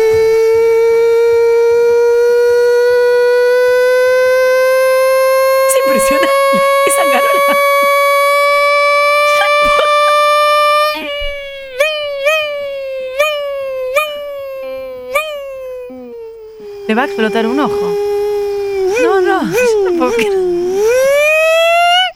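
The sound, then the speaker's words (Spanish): A voice imitates a Formula 1 car: a long, strained, whining tone climbs steadily, then drops in a series of quick stepped blips like downshifts, ending in wavering revs, with brief speech. “Autos de Fórmula 1 tirando rebaje.”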